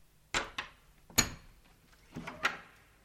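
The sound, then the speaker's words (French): A workshop door opens with a handful of sharp wooden clunks and knocks, the latch rattling and the panel bumping in quick, uneven succession. No one speaks. “Soudain, la porte de l'atelier s'ouvrit.”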